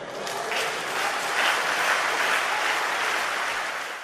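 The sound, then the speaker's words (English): A large crowd of hundreds of people applauding and cheering in a church at a memorial service, steady and dense for the whole stretch, with no talking over it. “Look at all those people, by the way, in church. Hundreds of them. Cheering them on.”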